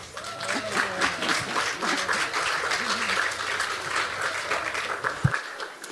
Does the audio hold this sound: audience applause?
yes